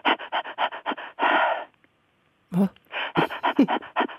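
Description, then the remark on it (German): A woman demonstrates controlled, dosed panting in quick, rhythmic, breathy bursts, fairly loud, then pauses with one longer breath before resuming the short puffs. No talking. “Ich empfehle allerdings immer, weil die meisten Menschen nicht so ein unverkrampftes Zwerchfell haben, dosiert zu hecheln.”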